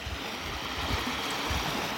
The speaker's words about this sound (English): Well, it's quite a chilly evening down here on the beach in Valtos and Lewis, but it is lovely. The calming sound of the waves on the sandy beach.